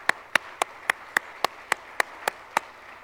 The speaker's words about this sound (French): On peut applaudir Jésus, ce qu'il fait.